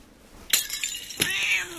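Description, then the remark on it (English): A cat, Mr. Whiskers, meows twice in quick succession, a short sharp cry followed by a longer, drawn-out wail, fairly loud with no talking. “Where are you going? After the cat?”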